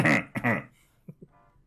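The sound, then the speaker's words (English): Two quick, loud, throaty coughs in close succession from a person with a throat infection in a corner, followed by a couple of faint low thumps before the sound trails off into quiet. “You just hear a cough in the”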